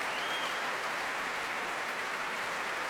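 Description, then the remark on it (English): Steady, dense applause from a concert audience for the strings of the London Symphony Orchestra, with Ian Bostridge back on stage applauding, a continuous crackle of many hands clapping at an even level throughout, with no voices heard. “Ian Bostridge back on stage applauding the strings of the London Symphony Orchestra.”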